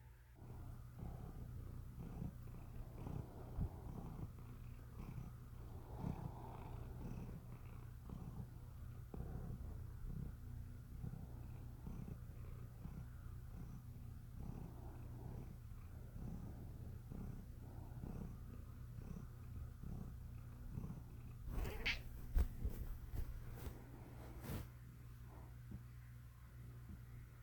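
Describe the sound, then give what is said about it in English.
A female cat that has just woken up purrs in a steady, low rumbling rhythm that continues throughout, with a few soft rustles and brief clicks near the end and no talking. “Oh, my cat joined me.”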